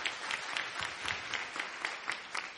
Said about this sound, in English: Come on with me, saints, clap, because it's going to be good news for you. Come on and clap your hands.